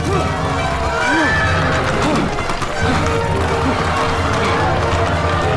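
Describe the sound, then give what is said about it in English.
Horses pulling a coach at speed, hooves drumming steadily with a whinny rising above the rumble, all set against a loud, busy background of a cheering crowd. “lands on one of the horses pulling the coach.”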